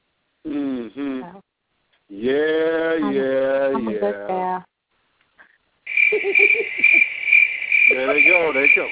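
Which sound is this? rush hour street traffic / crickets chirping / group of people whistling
crickets chirping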